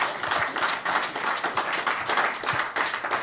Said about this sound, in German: Und jetzt zum Schluss einen warmen Applaus für die beiden Gäste. Dankeschön. Vielen Dank.